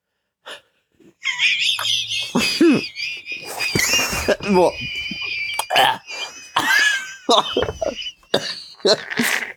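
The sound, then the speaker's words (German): A string of harsh, irregular coughs and gasping breaths from someone who got a drink down the wrong pipe, with a steady high-pitched tone running underneath for much of the time. “Ich hab die falsche Röhre gekriegt.”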